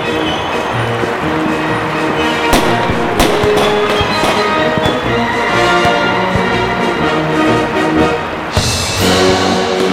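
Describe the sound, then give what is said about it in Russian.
Fireworks salute bursting over Red Square in Moscow during a festival, with several sharp booms going off at irregular intervals over a loud, dense, continuous wash of background sound. “О, начинается салют.”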